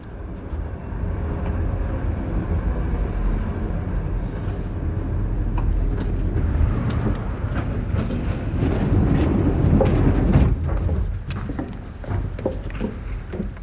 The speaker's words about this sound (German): ich glaube, das ist ein Zug. Ja, ein Zug.